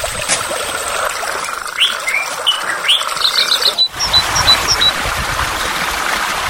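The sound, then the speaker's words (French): Birds sing in short, bright chirps and rapid trilled notes over a steady rushing wash of flowing water at a natural site with waterfalls, streams and natural pools, the calls scattered throughout. “qui donnent un nouveau visage à ce site, aux atouts naturels où se mêlent chants d'oiseaux et ruissellement de l'eau.”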